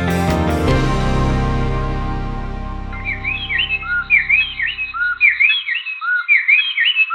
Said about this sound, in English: This might sound like just one bird singing, but it's actually two birds. A male and a female striped-breasted wren singing a duet.